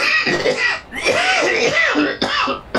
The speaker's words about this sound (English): Pardon me, I'm coughing like Greg Cody. Who the hell's Greg Cody? Greg Cody, primarily known as the 2021 PFBI Fantasy Champion, also is renowned for spontaneous coughing.